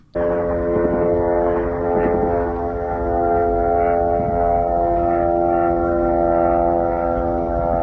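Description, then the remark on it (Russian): A kamikaze drone flying over Kyiv, the Ukrainian capital, drones loudly and steadily overhead, a buzzing, moped-like whine that holds almost unchanged for several seconds with no voices. “Давайте посмотрим, как происходило сегодня сбитие и не сбитие, к сожалению, этих дронов камикадзе в украинской столице.”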